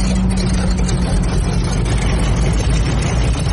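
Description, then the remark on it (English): A 1942 propeller plane engine starts up and roars steadily, heard from the back seat of the plane: a loud, constant low rumble with a droning hum and a hissy, wind-like wash above it, with no voices. “This is what you're hearing in the back seat of the plane.”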